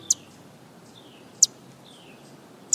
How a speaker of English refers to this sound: Hopping about a city park in Omaha, Nebraska, this male blackpoll warbler lets on little of the astonishing journeys he makes. He's a few thousand miles into one of the longest migrations taken by a songbird in the world.